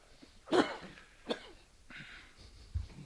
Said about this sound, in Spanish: No hay ningún problema, es un poco de tos que en la radio es hasta elegante.